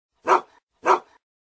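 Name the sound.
angry dog barking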